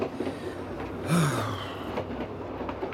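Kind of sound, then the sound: vehicle, train riding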